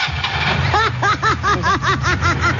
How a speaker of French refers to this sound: Je viens de comprendre, ce sont les moteurs qui sonnent comme ça ici.